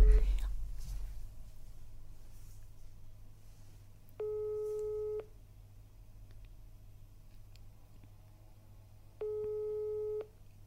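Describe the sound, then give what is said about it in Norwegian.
An unanswered phone call's ringback tone sounds twice, each a steady one-second beep at a single pitch with a long silent gap between, over a low background hum and faint murmuring. “Jeg tror bare jeg skal kudde ringe nå.”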